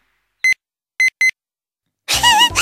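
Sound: mobile phone ringing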